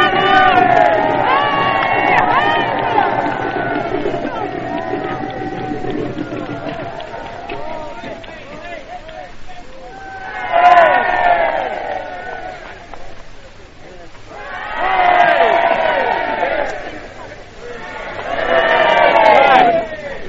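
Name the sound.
crowd cheering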